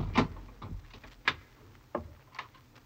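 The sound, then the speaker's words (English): A door being opened: a handful of sharp clicks and clunks, like a latch and handle working, spaced irregularly over a low, quiet rumble with no voices. “She's going to the door now, so hurry.”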